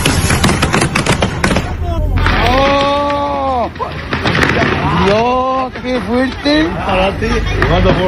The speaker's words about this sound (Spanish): debido a las llamas y explosiones que provocaban